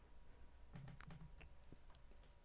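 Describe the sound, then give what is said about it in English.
Quiet keyboard typing: a dozen or so sharp key clicks in an uneven, hurried rhythm over a low background hum, with no one speaking. “I was looking forward to all these typing I'd have to do.”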